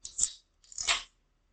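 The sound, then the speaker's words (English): A can of Wiseacre Hefeweizen ale being cracked open: a short, sharp hiss of escaping gas, then a longer fizzing rush that fades out, with no voices. “Go ahead and pop mine here.”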